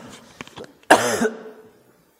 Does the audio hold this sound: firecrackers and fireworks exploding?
no